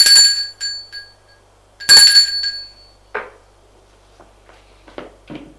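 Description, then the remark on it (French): A doorbell rings twice at an apartment door on the top floor of a building, each bright metallic chime sounding loudly and fading out, followed by a few soft clicks and shuffling noises with no one speaking. “Il sonne.”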